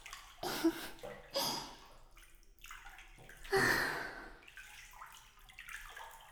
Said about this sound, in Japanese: これ、お湯抜かないとダメですね。